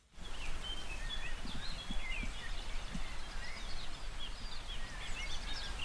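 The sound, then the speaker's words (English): Several birds sing outdoors on a farm in Clare in the morning, their quick high chirps and trills overlapping throughout against a soft, steady background of open-air rustle. The song is fairly quiet, with no one speaking. “That bird song is amazing.”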